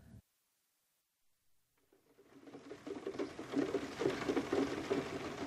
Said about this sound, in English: This was in my thoughts when we arrived for our honeymoon at the house we rented by the side of Lake Como in Italy. It was raining heavily.